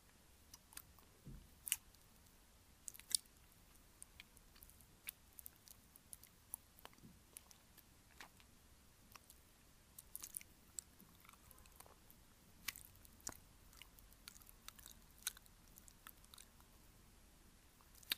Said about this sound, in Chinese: 没错，简单来说的话，耳朵再次被舔的话，就会变得很奇怪。